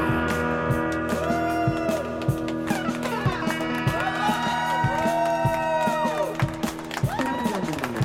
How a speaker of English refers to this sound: There it is. Crowd noise.